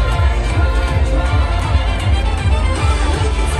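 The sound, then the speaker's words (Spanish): A large crowd celebrating New Year 2026 in Tokyo, Japan, with a dense, continuous roar of many voices cheering and shouting at once, loud throughout with no single voice standing out. “Y así es como lo están celebrando en Tokio”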